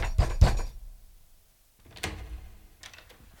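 Two loud knocks on a door in quick succession, followed after a short pause by a softer thud and a couple of faint taps or rattles.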